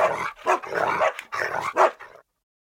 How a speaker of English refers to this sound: Or when dogs barked and growled and ran round in circles.